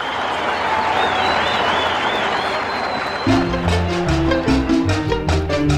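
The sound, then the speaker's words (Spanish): A crowd applauds loudly in a dense, steady roar, with a wavering whistle riding over it; after about three seconds, music with heavy bass and a punchy rhythmic beat cuts in. “Un aplauso”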